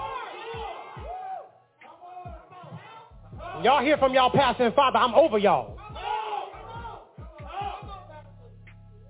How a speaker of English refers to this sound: Do y'all hear the amens in the background?